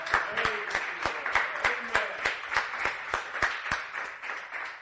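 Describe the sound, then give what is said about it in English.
An audience claps together in a steady, even rhythm, roughly three claps per second, with scattered voices calling out and cheering for the Lord underneath. “Give the Lord a cheer.”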